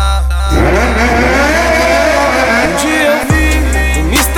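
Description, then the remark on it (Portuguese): A loud motorcycle engine revs hard, its pitch sweeping upward repeatedly in rising waves, briefly cutting off before roaring back up again, continuous with no talking. “Apoio Clube Track Day e Moto Esportiva. Sente acelerada.”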